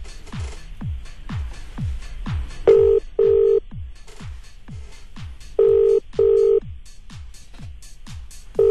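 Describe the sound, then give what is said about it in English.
A phone line rings with steady double bursts of tone, repeated three times, over a constant rhythmic low thumping pulse, as a radio prize-draw call is placed to a listener in Maryland. No one speaks. “Okay, dialing the number.”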